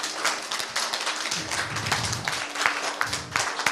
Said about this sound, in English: Yeah, let it turn into a round of applause.